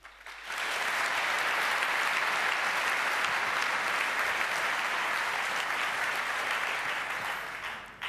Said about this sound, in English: So, and now I would like you to give a very warm and welcoming applause to our very nice speaker,